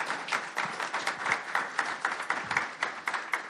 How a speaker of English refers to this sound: Let's give our panelists a quick round of applause.